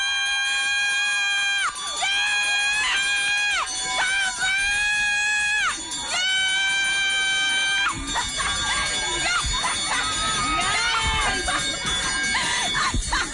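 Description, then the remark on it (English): A woman who has beaten cancer rings a bell in repeated, bright, sustained peals with shimmering overtones, then a loud crowd breaks into cheering, shouting and screaming. “Listen to the way this woman rang this bell.”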